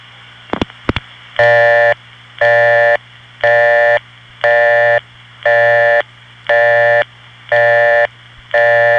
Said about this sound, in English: One more Bell System busy signal deserves mention before we go on. The best description of this one I ever heard came from a 10-year-old girl named Joanna, who said, "It sounds like an Englishman saying burp over and over."